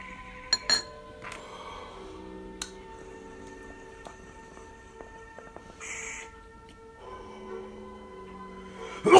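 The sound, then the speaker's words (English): Thick glass bowls clink together a few times, sharp taps near the start and a louder one at the end, each leaving a faint ringing tone over a quiet background. “Man, these Hanlings are built with integrity. Nice thick bowls.”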